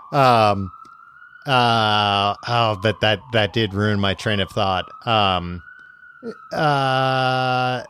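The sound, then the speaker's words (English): An ambulance siren from an ambulance driving up sounds with a steady high wail running continuously beneath someone talking, rising slightly in pitch as it goes. “Sorry that there's an ambulance driving up to get me right now.”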